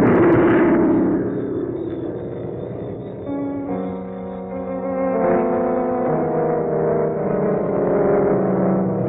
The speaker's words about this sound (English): Falling! She exploded in midair and now she's falling!